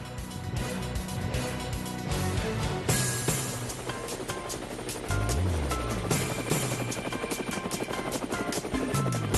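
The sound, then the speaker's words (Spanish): Helicopter rotor blades thump in a fast, steady rhythm, loud, with a broad whooshing engine roar that swells partway through. No voices are heard. “Bueno, ahí llegan las aspas del helicóptero, hay que relajarse.”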